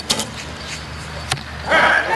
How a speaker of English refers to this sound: You can, if you listen carefully, clearly hear that three stages of the flight, the twang of the bow, and then the swish through the air, and then the thud of the arrow hitting the target.